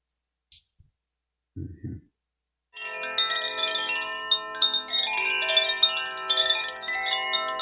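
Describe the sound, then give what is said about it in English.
Koshi chimes ring in a dense, shimmering wash of overlapping bright tones, with soft repeated strikes sustaining for several seconds, after a brief click and a low muffled thump. “Okay, Koshi chimes, see if we can find something that pops up here. I'll just do a little video of Koshi chimes.”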